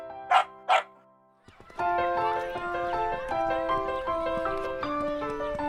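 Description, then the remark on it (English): A dog named Dodo barks twice in quick succession, loud, then a bright, steady melody of music begins and continues to the end. “Even Dodo barks nonstop.”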